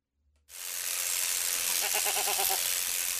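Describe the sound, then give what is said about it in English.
A single wavering sheep bleat rises out of a loud, steady buzzing hiss that starts abruptly and continues throughout, the bleat lasting under a second near the middle, at a sheep shearing event at the sheepdog trials in Hotchkiss in June. “In June, she attended a sheep shearing event at the sheepdog trials in Hotchkiss and brought us this report.”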